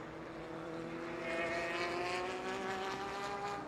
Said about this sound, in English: Waiting for them to get up to speed, but glorious sounds round Sebring International Raceway. Live on RS1, it is the FIA WEC first round of the 2022 season.